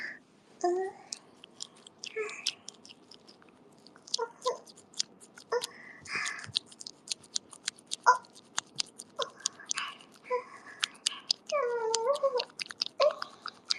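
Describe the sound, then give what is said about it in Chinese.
Sticky, wet squelching noises come as an irregular stream of soft smacks and clicks, fairly quiet, with a few brief squeaky tones near the end and no talking. “黏糊糊的水声喜欢吗，宝宝？”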